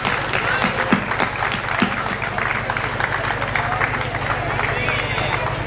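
Sustained audience applause for the former and this year's pubilles, a dense wash of many hands clapping steadily at a fairly loud level for several seconds, with a low steady hum running underneath.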